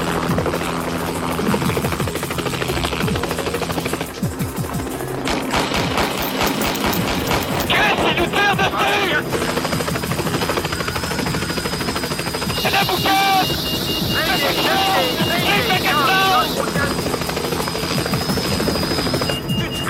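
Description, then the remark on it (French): A helicopter is shot at in the Quebec TV series L'Or, where Jean-Marc Parent fires a gun at it. A loud helicopter with steady rotor chop and engine roar is broken by bursts of rapid, sharp gunfire, all in a dense, continuous mix. “qui tire du gun sur un hélicoptère”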